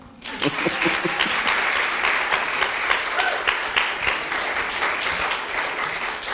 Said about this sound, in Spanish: Yo creo que él se merece, su pastor se merece un aplauso. Your pastor deserves an applaud.